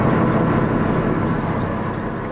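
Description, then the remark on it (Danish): A loud, steady engine rumble of an old bus on the move, heard from inside, with a deep throbbing drone and constant road noise and no voices. “Jeg skal lige nyde busturen her”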